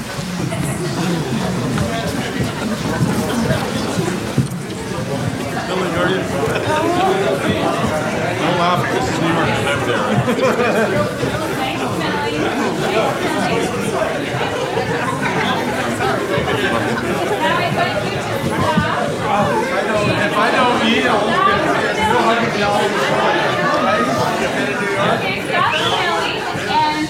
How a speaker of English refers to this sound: But so does everybody else, and you're kind of bustling, trying to get through the crowd, so kind of create that bustling atmosphere for yourself by milling around, and you can go ahead and get started now.